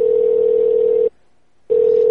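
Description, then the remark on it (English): A telephone ringback tone sounds while a call waits to connect: a loud, steady electronic hum that stops for a short pause, then starts again, with no voices. “Enjoy the following music while your party is being reached.”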